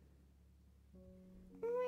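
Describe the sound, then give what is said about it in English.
A cat lets out a single drawn-out meow, starting as a soft tone and swelling into a louder, rising cry at the end. “Meow once if you think so.”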